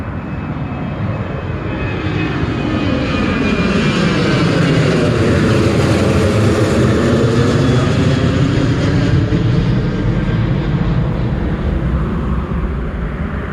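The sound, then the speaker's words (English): A loud airplane roars during takeoff from a runway, its jet engine noise swelling to a broad, steady rumble and a sweeping whine that rises and falls as it passes. No one speaks. “I see it coming. See it, guys? Yeah, watch it take off.”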